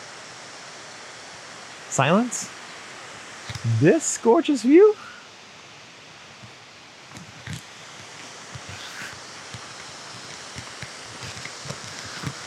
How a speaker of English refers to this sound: Excuse me, it's so loud because the waterfall's right here.